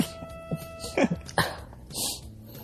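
A person coughs several times in a row, short harsh bursts, followed by a breathy exhale, with no talking.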